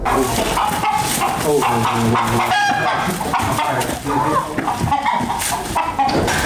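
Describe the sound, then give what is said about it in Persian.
A loud, crowded barnyard: chickens cluck continuously and close by, while a rooster lets out a drawn-out crow partway through, all over a steady background din. “می خواهد بیشتر به مرغان نگاهوبین کند چون که آنها پرنده های اهلند.”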